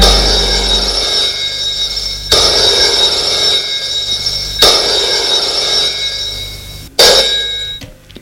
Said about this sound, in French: Le lendemain matin, François est réveillé par la sonnerie du téléphone.